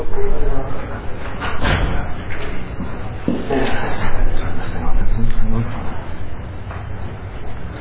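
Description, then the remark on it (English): A classroom door is pushed shut with a solid thud, followed by a softer knock a moment later, amid a roomful of low background chatter and shuffling. “Can someone get that door over there?”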